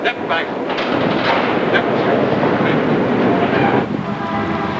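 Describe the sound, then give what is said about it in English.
A packed subway car full of commuters rumbles along the tracks in a steady, loud, unbroken roar, with hints of indistinct voices mixed into the noise. “The woman glances around as a surge of commuters push her onto a packed subway car.”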